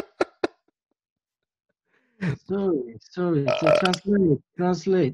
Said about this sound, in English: Did you hear that? It was a little bit wet too. This is a horrible show, by the way. Oh, thank you all for listening. I just burped on the show.